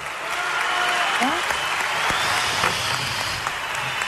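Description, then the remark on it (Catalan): Steady, dense applause, with some whistling, from a large crowd at a Catalan independence rally for a speaker at the lectern, loud and continuous, with a few shouts and whistles rising above the clapping. “D'aquest faristol, ha rebut part d'aplaudiments, algú sí que l'està xiulat, i de fet ara el que sentim, com podeu escoltar darrere meu, crits de govern dimissió.”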